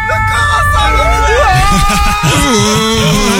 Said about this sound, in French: Sirène.